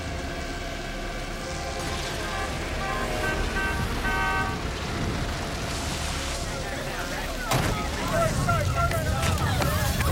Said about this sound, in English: His gang arrives in two cars, scattering a group of spectators onto the pavement. Tommy slams his car door and rushes over to Eddie's side.